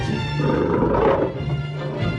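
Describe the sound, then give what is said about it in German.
Lions roar in a 1981 American adventure comedy film, in a loud, sustained burst that swells slightly midway before easing off, dense, with no talking. “Also man sieht schon viele Löwen auf engem Raum und Menschen, die Löwen sehr nahe kommen.”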